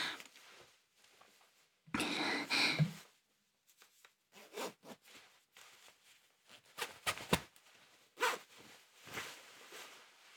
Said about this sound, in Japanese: 早速チャックも開けて脱いでいきたいと思います。